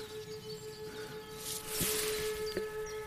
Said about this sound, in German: Hört ihr es? Da passiert gerade irgendwas. Die Sirenen heulen los.